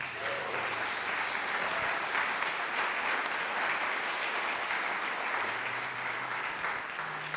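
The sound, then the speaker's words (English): A crowd claps steadily and loudly for several seconds in a round of applause given to Jesus after a prayer, a dense wash of many hands with no pauses, while faint low tones hum underneath near the start and end. “Can we just maybe give a round of applause to Jesus, man?”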